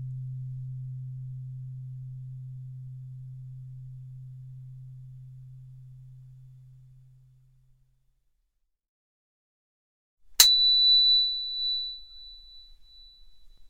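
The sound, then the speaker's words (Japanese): A low, steady pure tone slowly fades away, followed by a few seconds of silence. A sharp click then introduces a high, piercing sine tone, 32 times the 'earth frequency', that holds unwavering until the end. “この音は天井の周波数、大地の周波数の32倍も高い音。”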